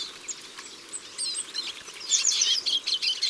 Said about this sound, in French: Et puis des tarins qu'on entend bien là. Ah oui, ça grince. Ça couine. Ils sont tout petits, jaunes et noirs, et toujours en bande. Ces tarins des aulnes viennent du nord de l'Europe pour passer l'hiver chez nous.